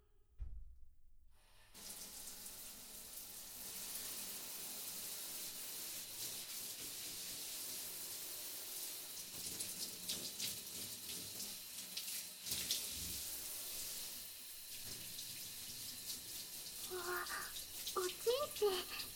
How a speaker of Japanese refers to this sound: まずは軽くシャワーで流しましょうね。